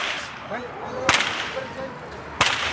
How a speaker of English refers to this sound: Garcia lashes the air above the goats with a small whip. It sounds like a gunshot.